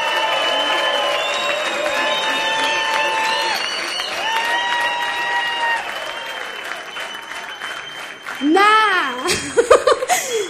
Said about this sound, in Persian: تشویق کنید ببینم دوست دارید یا ندارید.